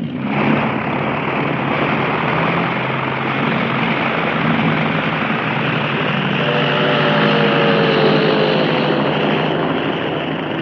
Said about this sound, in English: Taking off from the Naval Aviation Base in San Diego, California, about 2:20 on the afternoon of January 10, the six planes of Flight Squadron 10F, U.S. Navy... were heading, naval authorities said, toward Hawaii